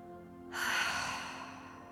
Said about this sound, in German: Und dann einfach mal dreimal tief, tief, tief ein- und aufschnaufen. Das können wir gerade gemeinsam machen. Schnauf mal durch deine Nase ein und dann lösen durchs Maul aus.